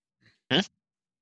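A single harsh, throaty cough that had been stuck in the throat finally bursts out loudly, preceded a moment earlier by a faint, low catch in the throat, with silence before and after.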